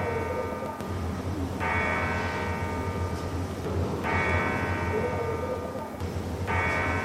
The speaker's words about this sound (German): Ja, was ist das? Ist es ein Spuk? Nein, es ist wahrhaftig, die Glocke unserer Johanneskirche.